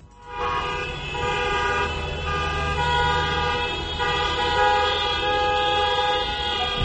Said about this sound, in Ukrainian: Сьогодні в Україні відбулася акція протесту проти дій української влади під назвою «Посигналимо». Організатори просили водіїв натиснути на клаксони своїх автомобілів коло владних структур. Це прояв незгоди проти політики всієї української влади.